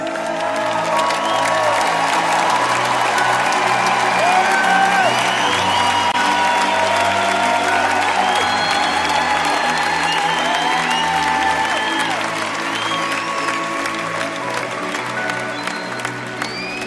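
Sustained applause from a crowd of over 10,000 people in the Schleierhalle, dense and steady for the whole stretch, with scattered cheers and whoops rising above the clapping and no talk over it.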